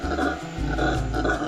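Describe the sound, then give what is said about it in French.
Howler monkeys in the Amazon rainforest roar in a deep, continuous, rumbling chorus, loud, with overlapping guttural howls that rise and fall without a pause. “En Amazonie, c'est les singes hurleurs.”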